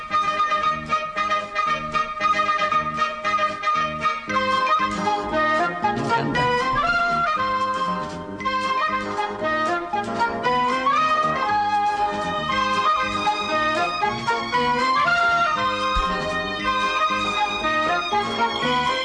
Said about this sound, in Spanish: así que ahí tenemos ya la sintonía, ahora sí que sí. Estamos empezando ya el concurso.